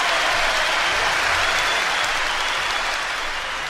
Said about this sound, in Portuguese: E é para esses três homens que eu peço uma salva de palmas muito especial.